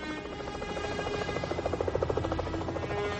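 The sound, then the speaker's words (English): A helicopter drones steadily overhead, its rotor thumping in a rapid rhythmic pulse over a continuous engine hum, fairly loud with no one talking. “at the dead kidnapper as the helicopter drones overhead.”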